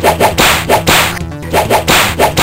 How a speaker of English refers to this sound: Oh, come on, Jane. Don't try that whip thing on me.